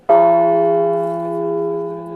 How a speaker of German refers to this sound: So klingt Etienne. Eine von 8 Glocken aus der Kathedrale von Notre-Dame, die Bergamo und sein Team über Monate hinweg restauriert haben.